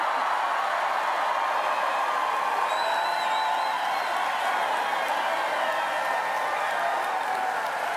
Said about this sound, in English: Now, that is what you call a crowd response. I don't know. But oh, yeah. It's exciting just to listen to it, how just incredibly hopeful and engaged people are.